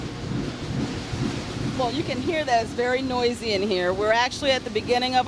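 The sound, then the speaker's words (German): Printing presses in a large print hall, at the start of production in the offset area, with a gravure press and an offset press, keep up a loud, steady mechanical roar with a dense low rumble, and after a couple of seconds a person starts talking over the constant din. “Hier ist es wirklich laut. Dabei befinden wir uns erst am Anfang der Produktion im Offset-Bereich.”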